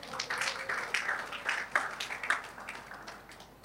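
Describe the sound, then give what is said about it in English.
A church audience clapping for themselves, a dense, irregular patter of many hands that holds steady for a few seconds at a fairly soft level, with no voices over it. “Amen. Clap for yourself.”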